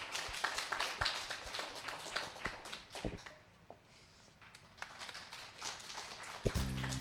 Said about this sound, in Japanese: 大きな拍手をお送りください。